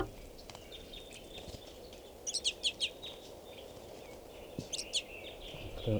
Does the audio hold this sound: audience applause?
no